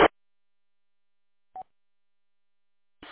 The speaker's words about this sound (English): It's only when somebody keys the repeater up and it goes right through the whole time they're talking. It's just a little beep, drives me nuts.